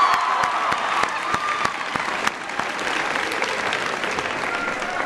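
A room full of people claps steadily, a dense, sustained burst of applause with scattered sharp hand claps standing out near the front, continuing without pause for several seconds.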